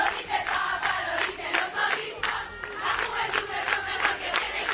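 A large crowd of young Catholic pilgrims in Poland shouts and chants in unison that they are the Pope's youth, their voices rising in rhythmic bursts of loud, energetic cheering that continues steadily throughout.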